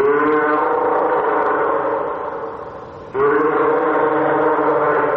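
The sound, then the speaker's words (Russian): A northern fur seal named Avgust (August) gives a loud, sustained bleating call with a rich, buzzy tone. It fades slightly, breaks off briefly, then resumes just as strongly for a second long bleat. “А это подает голос морской котик «Август». по его блеянию можно сверять часы.”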